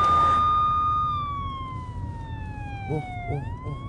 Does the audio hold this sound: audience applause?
no